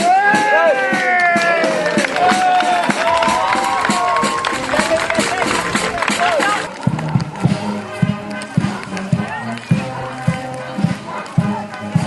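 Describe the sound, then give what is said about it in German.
Church-fair youth and spectators cheer and shout with whistles and excited voices for several seconds as the decorated festival tree is raised on the large square in front of the cultural hall, then the noise drops to a murmur of talk over rhythmic knocking and brassy tones. “Am großen Platz vor dem Haus wurde auf dem Baum die geschmückte Krone angebracht und im Jubel der Kirchweihjugend sowie der Zuschauer der Baum aufgestellt.”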